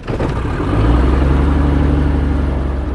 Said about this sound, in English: today we're flying one of his old favorite planes. This is a Cessna 180, a 1955 model Cessna 180.